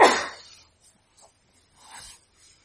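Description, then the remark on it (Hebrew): A deep breath drawn in during a guided breathing exercise, a loud airy rush that fades over half a second, followed by a quieter, softer breath a moment later. No one speaks. “נשימה עמוקה.”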